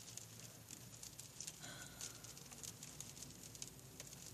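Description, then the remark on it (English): Soft, steady pattering of light rain on a gray, cloudy day, with scattered tiny taps and drips over a quiet hiss of background noise, heard at a low level with no voices. “It's gray and cloudy and rainy.”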